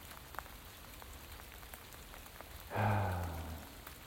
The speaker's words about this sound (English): Here I stand in the rain.